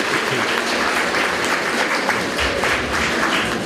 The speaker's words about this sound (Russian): Ну, я понимаю вас, что хорошо, что говорил недолго. Это действительно заслуживает аплодисментов.